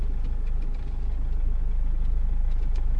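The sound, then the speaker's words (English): A car engine hums steadily at mid revs, a continuous low rumble with faint ticking and slight surging, no voices. The car is being driven across an angle in a handling test, and its front is starting to go down quickly. “And if you come at it across an angle, the front goes down quickly, which it's just starting to do now.”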